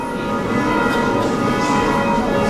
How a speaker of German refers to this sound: Die Glocken im hohen Spitzturm vor der Kirche luden am Samstagvormittag zu einem besonderen Gottesdienst in die Orschowa römisch-katholische Kirche ein.